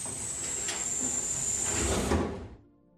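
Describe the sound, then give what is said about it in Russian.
The doors of a modern, chrome, very spacious elevator slide shut after its single down-arrow button is pressed, with a steady mechanical rumble and faint hiss, ending in a soft thud before the sound cuts off. Moderately loud, no voices. “На нее Кеннет и нажал. Двери закрылись.”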